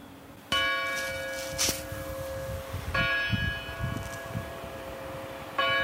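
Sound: church bells ringing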